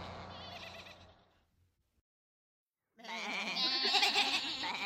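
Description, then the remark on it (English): Many sheep on a road bleat in loud, quavering cries, fading out into a brief silence before a louder, overlapping burst of bleating returns. “There are lots of sheep on the road.”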